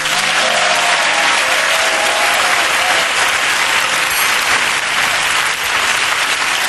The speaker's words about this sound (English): That's a long clap for a spoon, isn't it? Yeah. Just a spoon. I don't think a spoon's ever got that applause before.